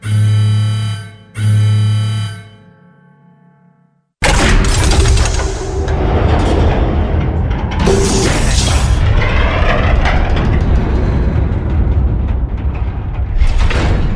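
A heavy vault door, an audio vault on the NFL draft, is opened with a key: two low, droning groans fade out, then a loud, sustained mechanical rumble with grinding bursts and booming clanks takes over until the end.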